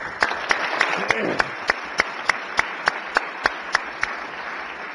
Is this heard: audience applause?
yes